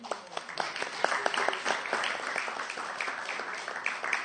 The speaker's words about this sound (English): If you didn't go out on Sankirtan during December, can you give them all a round of applause, please?